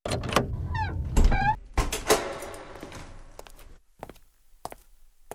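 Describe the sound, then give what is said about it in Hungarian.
A door creaks open with a squeaky, rising hinge whine and a rush of movement, followed by a few sharp knocks and scattered footstep-like thuds fading into quiet. “Másnap feküdtem az ágyamon, szokás szerint vártam Misit, amikor nyílt az ajtó.”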